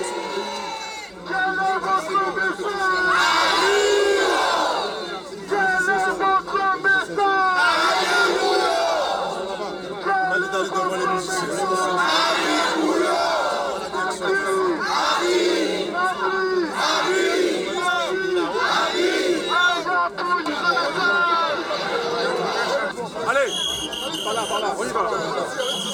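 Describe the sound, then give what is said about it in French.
A large crowd chants and shouts in rhythmic waves at a huge street demonstration in Paris on 10 November, many voices rising together in loud repeated bursts that continue steadily for the whole stretch; the protest demands an end to 'profitation' in France's overseas territories. “la manifestation qui s'est déroulée à Paris le 10 novembre dernier, une manifestation gigantesque pour revendiquer l'arrêt de la profitation dans les territoires d'outre-mer.”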